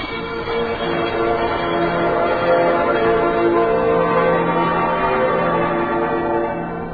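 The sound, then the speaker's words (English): Many bells ring together in a dense, overlapping wash of tones, sustained and steady for the whole stretch, fairly loud, with no voices. Thousands of bells, including old fire bells, old train bells and a few Christmas bells. “And then he was placed in a room with thousands of other bells.”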